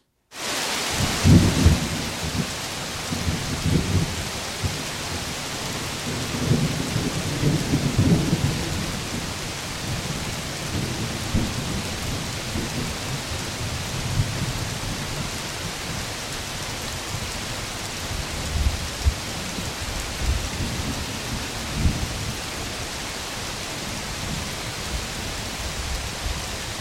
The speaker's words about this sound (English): Here from the rainforest of Borneo, this is 1991. The rain, thunder, and lightning coming on like a freight train. The Tanjung Harapan Forest.